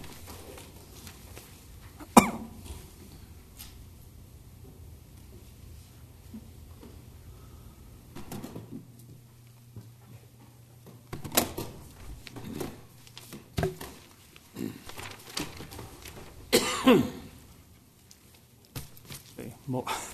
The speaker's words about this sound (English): Excuse me. And by the way, I do have a dry throat, so if I start coughing, I apologize.